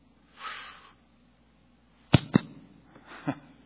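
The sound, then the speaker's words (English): A soft whoosh, then after a pause two quick, sharp slaps in close succession, followed by a lighter third smack, as a person slaps themselves. Nobody speaks. “Slapping myself.”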